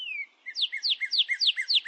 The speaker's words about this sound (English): Birds make all kinds of sounds, from squawks to chirps to warbles, and they can have different meanings.